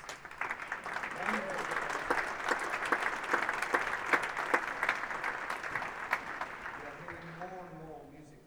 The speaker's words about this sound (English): So, the band's final piece is a piece by Stephen Bryan, and we're delighted that Stephen is here. I didn't see when he stood up. Where is Stephen Bryan? Here he is. Applause once more.